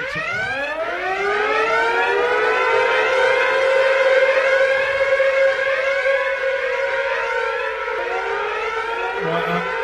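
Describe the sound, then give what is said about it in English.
A building alarm siren, signalling a text from a very important person, winds up from a low growl to a high, steady wail within a couple of seconds, then holds that loud, sustained tone to the end, with no voices. “The alarms is when a very important person texts in.”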